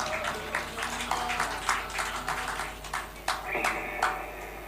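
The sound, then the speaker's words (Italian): An audience applauds Verde Coniglio, a cultural association of Battaglia Terme, steadily for several seconds, a dense patter of many hands clapping at moderate volume, with a brief tonal cheer or whistle rising near the end. “Un applauso al Verde Coniglio.”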